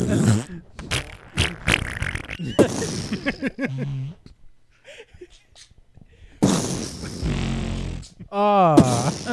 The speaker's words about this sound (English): On the subject of fart sounds. Yeah. Love it.